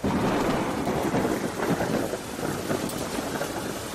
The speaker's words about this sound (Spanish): Anoche la calle Arrabal del Agua hizo honor a su nombre. Una tromba bajaba por esta calle de la capital como una manada de toros en puntas en el encierro de la Semana Grande. Lluvias torrenciales acompañadas de granizos como pelotas